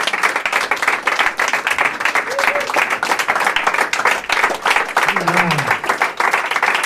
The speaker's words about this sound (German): Hey, großen Applaus auch nochmal an